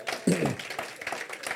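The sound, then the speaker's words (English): An audience claps for the Lord Jesus in a steady, dense wash of applause, with a voice calling out loudly over the clapping for a moment near the start. “Clap for the Lord Jesus.”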